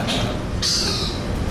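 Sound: birds calling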